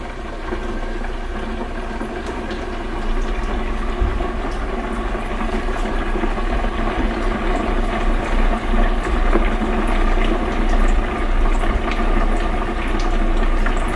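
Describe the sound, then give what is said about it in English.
Food lowered in the basket of a deep fat fryer bubbles and sizzles with the lid closed and a 3-minute timer set: a steady, dense crackling hiss over a low hum, continuing evenly throughout with no voices. “Now, there's no danger of splattering with this deep fat fire because the lid is closed.”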